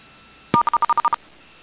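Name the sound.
telephone number being dialed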